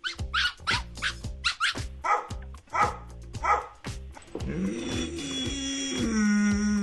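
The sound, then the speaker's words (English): A dog barks in a quick run of sharp, loud yips, then shifts into a drawn-out, rising howl with a groaning edge. No one speaks. “The scientists say those barks, howls, and groans have emotions apparently associated with them.”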